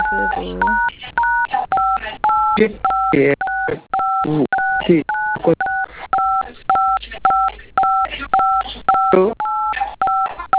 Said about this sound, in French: Monsieur, il y a le clavier de vos téléphones se compose. Je ne fais qu'entendre ça.